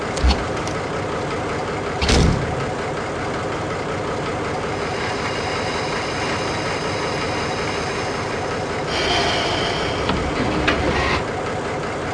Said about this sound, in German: Am Gleis 3 fährt ab, Sonderzug nach Dresden. Bitte zurücktreten. Türen schließen.